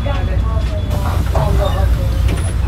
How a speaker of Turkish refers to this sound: İçerisi oldukça sıcak olan bir otobüs hattındayız. An itibariyle evet devam ediyoruz. Şu an yoldayız ve Beşiktaş'ta devam ediyoruz. Evet. Şu an otobüsümüze bindik.